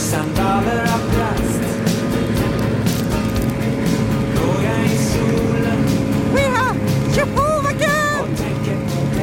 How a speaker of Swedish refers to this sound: Ja, men det var världens roligaste skotertur. För jag frös ingenting till en början. Nu fryser jag jättemycket om fötterna. Och det var så kul att köra.